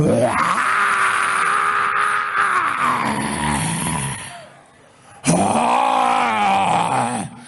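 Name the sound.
lion roaring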